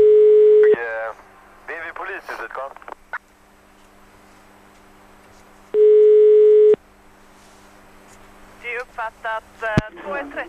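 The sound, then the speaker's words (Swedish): Two long, steady telephone ringback tones on an outgoing prank call by Mix Megapol's morning show, whose hosts pose as police calling the person responsible for a sports hall, separated by several seconds, with brief speech-like sounds in the gaps and a short click near the end. “Ja, i det här samtalet får vi höra när vi som poliser ringer upp en ansvarig för en sporthall och berättar att den här sporthallen har fått ett oväntat besök.”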